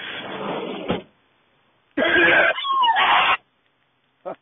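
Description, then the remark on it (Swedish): Loud coughing and throat clearing in raspy bursts: a rough opening stretch, a brief silence, then a longer strained hacking fit and one short final clear. “Nu med dina jävla hosta saker.”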